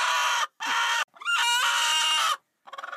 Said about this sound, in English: Screaming chickens. And we looked through the window and we saw just like feathers flying, and we saw the bobcat.